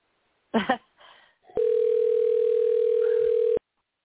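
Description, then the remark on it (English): A phone line rings out with one steady, two-second electronic tone after a brief muffled click and rustle, heard through the handset while a call is being placed. “And hopefully I called the right number.”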